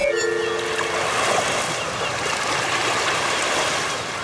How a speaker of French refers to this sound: Le bruit des vagues, l'odeur de l'océan, le soleil qui commence à chauffer et cette petite odeur de grillade qui arrive tout doucement.